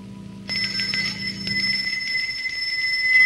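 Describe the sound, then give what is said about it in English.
A bell on the front door of a house starts ringing abruptly after a brief quiet moment as a man reaches up and rings it, a bright, sustained metallic ring that keeps sounding and grows slightly louder to the end, with no voices. “He reaches up and rings the bell on the door.”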